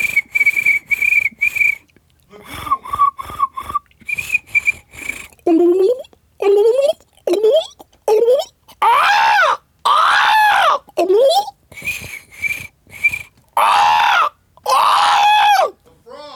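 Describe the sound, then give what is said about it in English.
A voice imitates swamp creature noises: a run of short, high, whistle-like chirps, then louder warbling calls and hoots rising and falling in pitch, with a word or two spoken between. “Sound effect drive is out, so make some, try to make some noise of like swamp stuff.”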